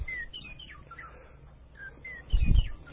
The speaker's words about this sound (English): I'll do the bird one more time here.